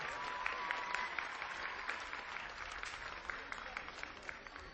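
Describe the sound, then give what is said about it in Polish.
A crowd applauds steadily, dense overlapping claps forming a continuous bright patter that holds at an even level throughout, with a faint tonal whistle-like line briefly audible early on. “Kolejny, brawa dla niego.”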